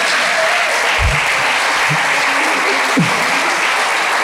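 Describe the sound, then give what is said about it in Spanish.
An audience applauds steadily for the whole stretch, a dense, even wash of many hands clapping, with a few faint low vocal sounds briefly poking through. “Digo, cuando usted quiere aprender una cosa, usted escucha el redoblante cuando el baterista hace tac, usted aplaude ahí.”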